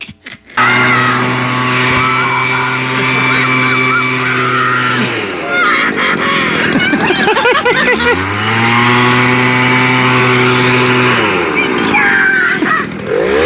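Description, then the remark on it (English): A leaf blower, handled by a little boy of about 5 or 6, runs loudly with a steady buzzing drone, dropping in pitch for a few seconds before revving back up to full power. “Have you guys seen the video of the little boy who's probably 5 or 6 and goes power hungry or power mad when he gets a hold of his grandpa's leaf blower?”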